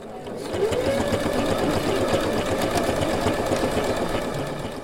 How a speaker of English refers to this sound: She's about to fire up her sewing machine.